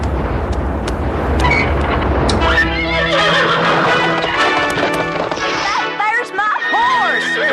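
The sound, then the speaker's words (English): A horse neighs and whinnies loudly, its shrill, wavering cries rising and falling over a busy background of low rumbling and clatter. “I can't ride this horse.”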